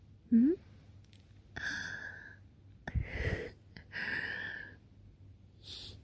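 A person breathes heavily, with about four long, breathy exhales that sound like panting. A short, high vocal squeak comes first, and there are no spoken words.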